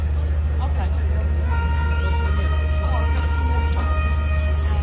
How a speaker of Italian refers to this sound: Queste sono le sirene durante gli scontri avvenuti a Genova domenica scorsa, prima della partita Genoa-Inter. Gruppi di ultra hanno provato ad entrare in contatto, auto bruciate e feriti.